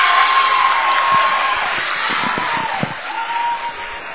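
Student sections from two schools cheer and roar steadily throughout for their girls' teams at a District 7A girls' basketball title game, with a thin whistle-like tone early on and scattered low thumps beneath the crowd noise.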